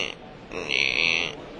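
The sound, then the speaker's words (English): A person imitates a doe deer's bleat with their voice: a single drawn-out, nasal, wavering call, fairly loud, preceded by a brief softer breathy onset. “And a doe bleat.”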